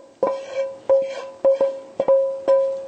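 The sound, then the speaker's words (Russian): Cooked broccoli and sausages, stewed in a pan, being moved into a bowl: a utensil strikes the dish about six times in an uneven rhythm, each sharp clink leaving a bright ringing tone. Fairly loud, with no talking. “И все это перекладываем в миску.”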